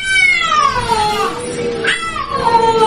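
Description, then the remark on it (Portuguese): Cats yowl loudly and continuously on a roof, drawn-out wavering cries rising and falling in pitch, with overlapping voices that sound like a caterwauling fight. “É gato viçando aqui em cima do telhado aqui?”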